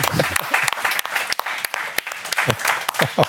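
A crowd applauds a guest being introduced on a show, dense overlapping claps forming a loud, continuous patter with a few sharper individual claps standing out, while a voice murmurs faintly underneath.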